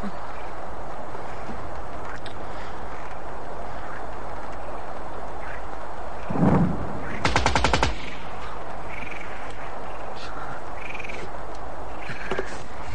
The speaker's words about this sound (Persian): بچه های ما بی خودی شلیک نمکنن، بیان با دوشگاه. برای چی؟ آخه مهماتش هم کمتره.